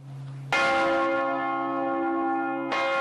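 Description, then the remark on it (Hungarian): Church bells of the renovated Matthias Church in Budapest, Hungary, which received four new bells, ring loudly: one heavy strike blooming into a long, rich hum, then a second strike landing over the still-sounding tones. No voices. “4 új harangot is kapott a felújított Mátyás templom.”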